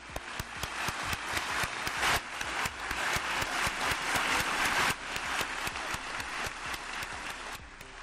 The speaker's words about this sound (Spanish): Este ha sido el emocionante aplauso que le han dedicado los presentes. A don Gabriel Escarrer Julià.